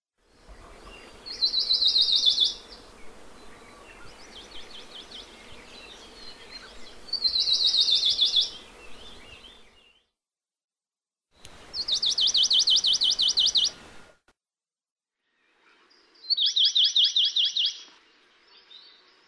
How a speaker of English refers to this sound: The songs of Amakihi are heard all year throughout Kokee and the Alakai. Most often the notes are of the same pitch, though the first note in a phrase may be higher. Here are four examples of Amakihi song.